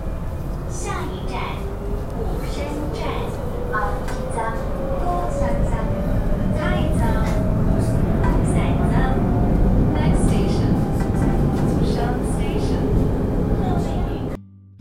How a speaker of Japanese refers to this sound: 高尾 LRT と呼ばれる路面電車のことです。今高尾のライトレールに乗っています。とっても快適。